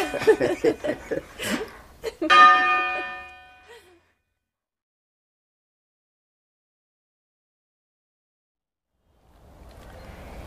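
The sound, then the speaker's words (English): A church bell, rung by a person trying bell ringing, strikes once, clear, its tone ringing out and fading within about a second, right after excited voices and laughter; a long silence follows, then faint background noise. “I'm a real bell ringer!”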